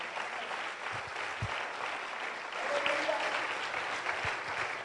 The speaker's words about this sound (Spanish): Vamos, dale un aplauso al Señor por eso.